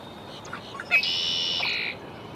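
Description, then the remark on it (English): A red-winged blackbird in a wetland at Sweetwater Wetlands Park, Gainesville, Florida, gives one call: a short sharp note, then a long buzzy trill lasting nearly a second, against a soft, steady background hiss. “Red-winged blackbird, Sweetwater Wetlands Park, Gainesville, Florida.”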